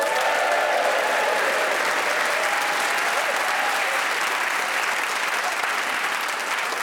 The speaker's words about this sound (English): Please whoop and cheer for all four of them.